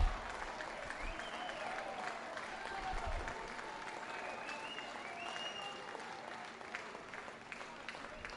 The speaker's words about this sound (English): The St. Lucie Mets fans giving a round of applause for their Mets, with the Threshers fighting to stay alive.